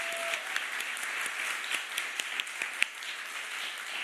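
An audience applauds steadily, a dense wash of many hands clapping at once, with a few sharper individual claps standing out now and then at an even volume throughout.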